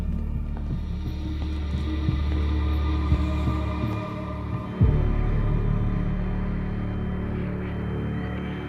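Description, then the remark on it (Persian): A steady electrical hum with a crackly, static-laced hiss runs throughout, like radio interference, with a brief thump near the middle and no voices. “این پارازیت چیه؟ فقط همینو میشنوم.”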